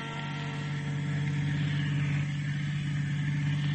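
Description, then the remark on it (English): A limousine's engine hums steadily in crowded London traffic, a constant low drone with a broad wash of road noise above it. The loudness stays even throughout, and no one speaks. “The opening scene is recent London, crowded London, a limousine in the traffic.”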